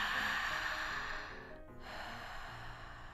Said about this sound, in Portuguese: Essa respiração, ela é assim, ó. Ela é lenta e profunda. Faz. Ela é assim.